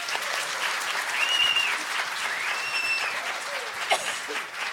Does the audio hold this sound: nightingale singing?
no